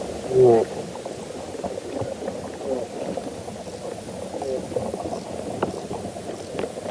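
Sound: soil creatures feeding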